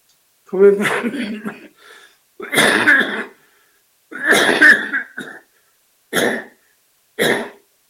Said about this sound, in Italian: La tosse non mi impedirà di dire ciò che devo dire.